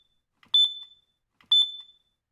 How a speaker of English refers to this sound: Later on, there must have been some smoke remnants because the fire alarm went off at 4 a.m.